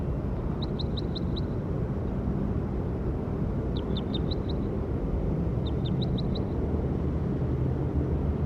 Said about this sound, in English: That was bird 57.